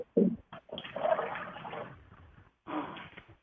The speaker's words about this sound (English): Who flushed the bathroom?